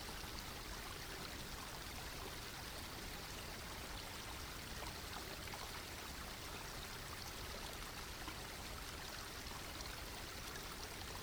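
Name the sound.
flowing stream water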